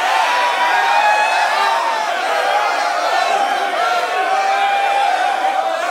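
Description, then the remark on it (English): A crowd-cheering sound effect: a large crowd cheers and roars in a steady, dense wash of many voices, staying loud and unbroken for the full six seconds with no single speaker standing out. “Can you put in a sound effect a cheer?”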